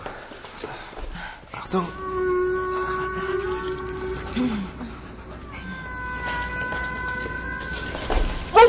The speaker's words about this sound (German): Ich glaub's nicht. Das hört sich an wie Walgesang. Du meinst die Laute, mit denen Wale sich verständigen? Ich dachte, das wäre eher so ein Klicken. Ja. Ja, das kommt drauf an, welcher Wal.